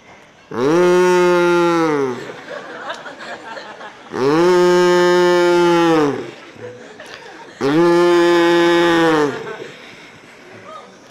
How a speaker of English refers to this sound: The cow. He went back to the wise man. This cow, he's disturbing my meditation.